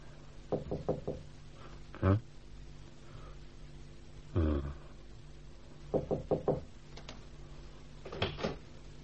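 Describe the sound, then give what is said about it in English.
Knocking on a door comes in short bursts of three or four quick raps, with pauses and a couple of heavier single thuds between them, fairly quiet, and no voices. “And if you please, I knocked and knocked and nobody came.”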